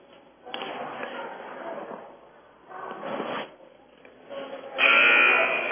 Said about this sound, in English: There's a buzzer.